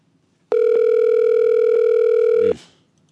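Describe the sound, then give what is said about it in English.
A steady telephone line tone sounds alone for about two seconds while a call is being transferred, holding one flat, mid-pitched note with a buzzy edge before cutting off abruptly. “I'm transferring you.”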